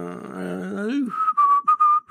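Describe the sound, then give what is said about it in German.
A person whistles into a microphone, heard by another person through headphones, starting with a wavering, voiced tone before settling into a few clear, steady high whistled notes broken by short gaps. “ja, in mein, ich in mein das, Kopfhörer ja, aber Ohr doch, gepfiffen.”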